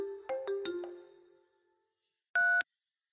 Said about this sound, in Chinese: 别吵，我去接电话。